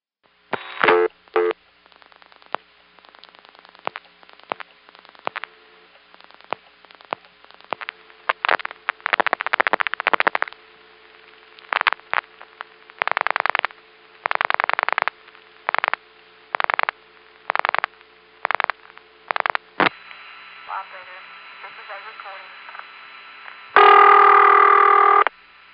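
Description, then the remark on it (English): A telephone call routed through an old step-by-step exchange: narrow, tinny line audio full of rapid mechanical clicks and evenly spaced switching bursts, ending in a steady tone and a louder buzzing burst. “Either we have hit an intercept trunk in a step office that is not functioning correctly, or we've hit a ringing number in a step office and are getting crosstalk from an intercept trunk call.”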